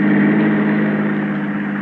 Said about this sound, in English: Then I saw the headlights of a car coming down the hill. I ducked behind the tree.